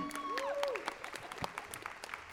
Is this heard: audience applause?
yes